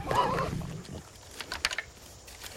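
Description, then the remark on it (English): A lioness growls low and rough, then quieter wet tearing and crunching sounds follow as it feeds on a deer it has just killed. “Robert keeps his rifle aimed as the lioness feasts.”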